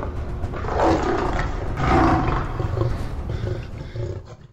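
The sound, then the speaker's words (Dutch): Several lions in a lions' den roar and growl in deep, rumbling bursts, loud, with two heavier swells about a second apart before the snarls trail off. “Wanneer Daniel binnengaat, ziet hij verschillende leeuwen die naar hem toe komen.”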